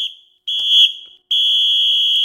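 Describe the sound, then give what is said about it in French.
Three loud, shrill referee whistle blasts in a row, the final whistle signalling the end of the broadcast: a short first one, a longer second, then a long sustained final blast, with no voices. “Eh bien, écoutez, on va entendre les 3 coups de sifflet final, il me semble.”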